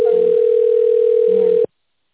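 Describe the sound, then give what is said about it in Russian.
A telephone ringback tone: one steady, mid-pitched electronic beep held for about a second and a half before cutting off, with faint background murmur underneath. “Мне нужна КПшка, возьмите трубку.”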